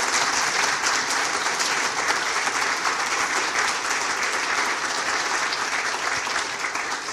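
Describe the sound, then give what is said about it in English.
A crowd at Dallas Theological Seminary claps steadily for the people who helped that day, a dense wash of applause that holds at an even, loud level for about seven seconds before easing slightly at the end, with no voices on top. “So would you give a round of applause for the folks for helping us today?”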